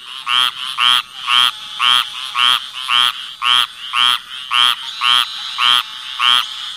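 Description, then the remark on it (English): A squirrel tree frog calls over and over, about a dozen loud, raspy, scolding bursts in a steady quick rhythm, clear with no voices. “The call of this frog is very much like the scolding sound that a squirrel makes when it sees a blue jay or is on the attack.”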